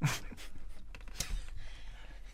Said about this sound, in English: What is that clicking thing you're doing?